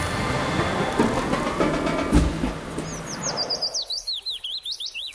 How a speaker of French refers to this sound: Les petits oiseaux pour votre réveil sur France Musique.